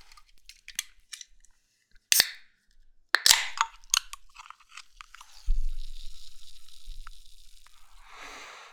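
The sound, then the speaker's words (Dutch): Light tapping and clicking on metal, then two sharp cracking pops as the tab of a can of bubbly, blood-orange-smelling drink with fruit pulp is pulled, followed by a steady fizzing hiss of escaping carbonation. No one speaks. “Ik ga het gewoon eens het blikje openen.”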